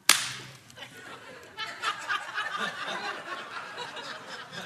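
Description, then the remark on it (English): A single sharp, whip-like swat of a fly swatter cracks out at the start and quickly fades, followed by a few seconds of lively, snickering chatter. “Rifles. Fly swatters.”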